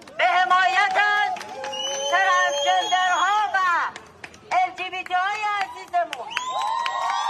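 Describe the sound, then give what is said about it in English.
A crowd at a protest against the Iranian regime cheers on an Iranian activist, many overlapping voices shouting and whooping in a continuous roar that dips briefly midway, then swells again with high, shrill calls near the end. “And the crowd cheers her on.”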